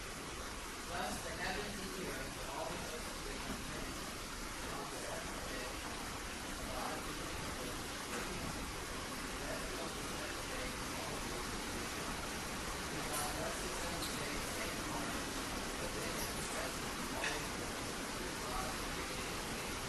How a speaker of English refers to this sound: So next time we read, I'm just going to call you up here because even I know you have a loud voice, but this rain is just makes it very, very difficult to read in here.